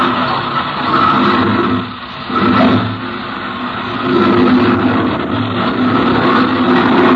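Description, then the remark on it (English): A propeller plane engine, started by a hand-spun propeller, roars steadily, a loud continuous drone with a brief dip before it surges again, with no talking. “Captain Bellows climbed into the cockpit, and the lieutenant spun the propeller.”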